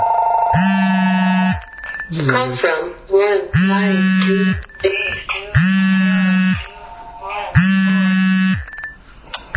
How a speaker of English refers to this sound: Lots of phones going on here. I actually can't hear right this second, so hold on.